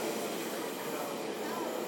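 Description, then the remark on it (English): A train passes on the other track at a station in Hamburg, a steady rushing roar with a rumbling undertone that holds at the same loudness throughout the short stretch. “Train passing on the other side there.”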